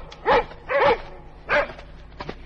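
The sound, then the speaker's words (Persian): Several dogs in a village bark in quick, uneven bursts as they run out of a house and chase a fox, three loud barks and a fainter yip at the end, with no one speaking. “وقتی پسر و روباه به در اولین خونه رسیدن، سگ‌ها بوی روباه رو احساس کردن و بیرون دویدن و اونو دنبال کردن.”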